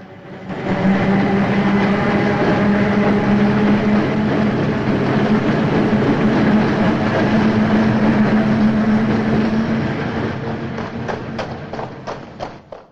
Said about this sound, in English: The police climb over the tracks to Eddie's body as the trains continue to rattle past.